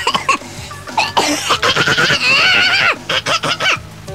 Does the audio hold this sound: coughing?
yes